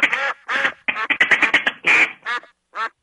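A run of loud duck quacks on a cloudy autumn day, first a few spaced calls, then a rapid chattering burst, ending with two separate quacks after short pauses.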